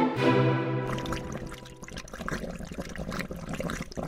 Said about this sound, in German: Das ist das Wasser von den Aquarien bei den Biologieräumen.